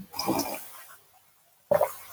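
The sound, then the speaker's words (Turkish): Two short, airy slurping sips of hot tea, separated by a quiet pause of about a second. “Şimdi bir yudum çay alıyorum ya. Onun sesi çok geliyor mu?”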